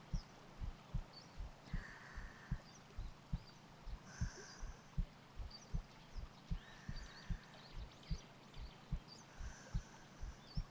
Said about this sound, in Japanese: こんなにぴったりとくっついていたら、もしかして私がドキドキしちゃってるのバレちゃってますか？だったら恥ずかしいな。